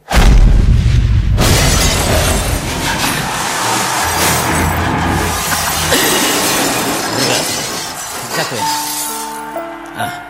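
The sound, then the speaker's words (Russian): A loud crash of a large glass office wall shattering as a man, punched from two centimetres away, is knocked through it, followed by a long cascade of tinkling, scattering shards that gradually thins out; brief clinks linger at the end. “я не рассчитал, что стены в офисе Серебряного дождя все стеклянные”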